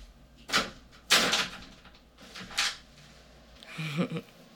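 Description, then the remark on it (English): A door leading onto a hallway is opened: a string of sharp clunks and rattling knocks at uneven intervals, ending in a brief low creaking sound, with no voices. “Open this fucking door or else.”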